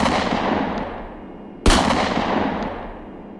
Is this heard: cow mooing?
no